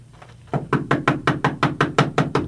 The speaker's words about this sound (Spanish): Ya para amanecer, empezaron a tocar la puerta con fuerza.